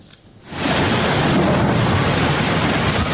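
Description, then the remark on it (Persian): Steady, heavy rain pours down after a brief quiet start, a dense continuous hiss with a low rumbling undertone that could be thunder or wind. No voices. “باران هر قطره‌اش حیاتی است.”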